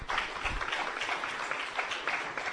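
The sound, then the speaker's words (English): A crowd applauds new members steadily, many hands clapping in a dense, continuous wash that holds at an even level for a few seconds, fairly loud. “Round of applause for our new members.”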